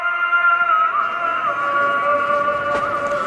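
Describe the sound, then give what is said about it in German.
A call to prayer rings out across the city from an old medina: one amplified voice holding long, steady chanted notes that waver slightly, loud and continuous over a faint wash of street noise. “Aha, so werden die Leute zum Beten aufgerufen. Das hört man in der ganzen Stadt.”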